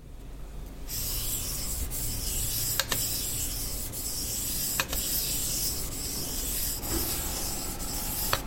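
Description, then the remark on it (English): A cake of rosin rubbed steadily along violin bow hairs, making a continuous dry, hissy scrape with small clicks roughly every two seconds as each stroke turns. No one speaks. “That was the sound of me rosining my violin bow.”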